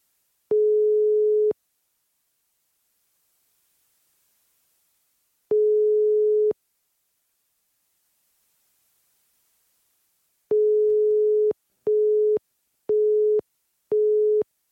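A telephone ringback tone sounds twice, each a steady one-second hum with long pauses, then switches to a quicker run of four short busy beeps as the call goes unanswered. No one speaks.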